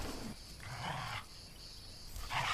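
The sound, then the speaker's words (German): A dog growls in a few low, rumbling bursts over a steady high buzz of cicadas in the evening background. “Hat der Hund Angst vor dem Kind?”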